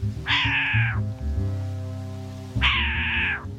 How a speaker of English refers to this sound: I'm glad I went back. I just saw a short-eared owl swoop by and make the cat noise I heard earlier.